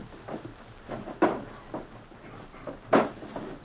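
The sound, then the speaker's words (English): Drawers in a cabin bunk slide and knock as someone searches them for a jewel box: a string of irregular wooden bumps and scrapes, with two sharper thumps standing out and no talking. “while we try the drawers in the bunk.”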